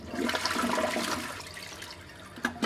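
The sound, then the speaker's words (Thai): A water-saving toilet in an eco-friendly hotel flushes with a steady rushing, gurgling wash of water that stays loud for a couple of seconds before tapering slightly, with a brief splash near the end. “ทางโรงแรมยังใช้หลอดไฟประหยัดพลังงานและโถชักโครกแบบประหยัดน้ำด้วย”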